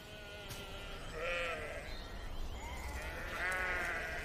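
Sheep bleat several times across an open field on a farm on a sunny, windy day, their wavering calls overlapping as they race away from a person approaching them, over a steady low rumble of wind.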